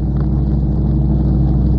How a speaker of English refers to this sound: Right, cut engines.